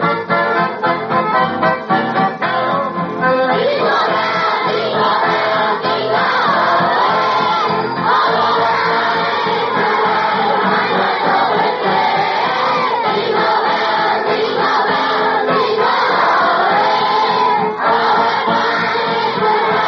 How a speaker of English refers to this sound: So, let's get the Christmas party underway with the stars of our show, all the wonderful boys and gals out there in the audience. And kids, we want you all to join us and sing Jingle Bells just as loud as you can, will you?